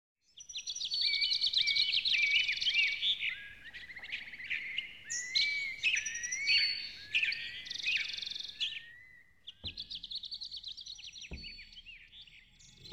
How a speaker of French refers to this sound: Ce monde magique est dans le ciel. Il y a les oiseaux, les vers roses gris.